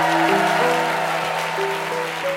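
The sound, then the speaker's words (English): A crowd claps loudly and continuously, a dense roar of applause that holds steady throughout, with a few sustained musical tones ringing underneath, as the audience welcomes the Lady Killers team onto the stage at Lady Killers Live in the BBC Marquee at the Hay Festival, Hay-on-Wye. “In a second, I'm going to invite the Lady Killers team onto the stage, and when they come up, I would like, please, some tumultuous applause.”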